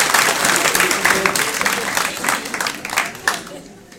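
An audience bursts into steady, dense applause, many hands clapping in a continuous wash that stays loud before thinning and fading out near the end.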